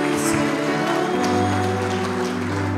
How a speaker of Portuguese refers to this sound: Glória a Deus, aplaudam ao Senhor mais uma vez, volte para o seu lugar dando glória a Deus.